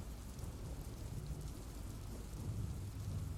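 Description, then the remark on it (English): Steady rain pours down while a deep, low thunder rumble rolls underneath, swelling slightly toward the end. No voices, just the continuous wash of the storm. “Oh, that was thunder.”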